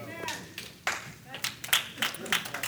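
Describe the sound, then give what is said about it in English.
A church audience claps together in a loose, uneven rhythm, sharp claps overlapping after a slow start, with faint voices murmuring underneath. “Church clap.”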